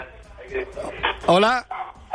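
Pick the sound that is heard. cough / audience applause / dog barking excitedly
dog barking excitedly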